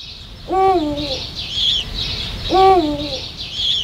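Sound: eurasian eagle-owl hooting call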